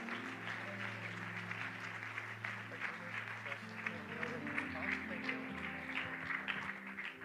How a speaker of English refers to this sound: Give that rowdy hand clap of praise unto him who deserves it. He that is the King of Kings.